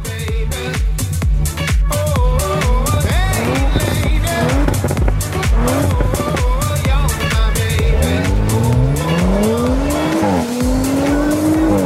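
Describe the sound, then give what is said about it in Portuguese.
An Audi RS4 Avant sports car engine revs and accelerates, its pitch climbing through the gears with bursts of tire squeal, loud throughout with no talking. “RS4 Avante, Alex, que nave, que máquina, um carro que já impressionava desde a primeira geração”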